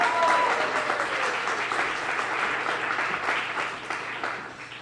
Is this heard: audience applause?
yes